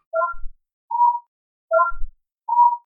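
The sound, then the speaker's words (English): Soft electronic beeping from a communicator: two repeating pairs, each a quick stepped chirp followed by a steadier mid-low tone, evenly spaced with no voices. “He hears on his communicator a soft, low beeping.”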